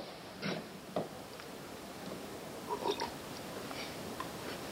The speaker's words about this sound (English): I submit, may I have a sip of water? May I permissibly take a sip of water? Yes.